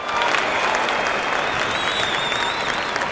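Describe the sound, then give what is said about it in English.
Steady, dense applause from a sizable audience, many hands clapping at once in a continuous wash of sound with faint whistles or cheers rising above it, sustained throughout. “Hear that applause, Nicholas? Yep, that's a well-earned applause”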